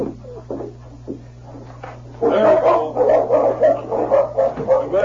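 Two dogs, Shep and King, bark and yip excitedly, starting softly and then breaking into a loud, continuous flurry of overlapping barks over a steady low hum.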